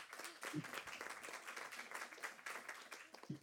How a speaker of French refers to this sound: Je ne sais pas si ça répond à la question, mais les applaudissements témoignent du bien fondé du propos.